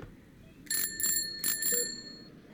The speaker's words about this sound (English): They're bells. Bike bells. I know it's not your traditional get well soon gift